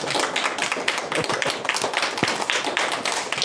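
An audience applauds steadily after the speaker finishes the book of Philippians, many hands clapping in a dense, continuous patter at even loudness throughout, with no voices.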